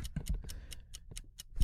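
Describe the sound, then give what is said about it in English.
An enormous off-brand Time Timer countdown timer made by Sakura ticks in a fast, steady rhythm, about eight sharp clicks in under two seconds, crisp, over a faint low rumble with no talking. “He got an off-brand time timer. It's basically by Sakura. And it's enormous, and it ticks.”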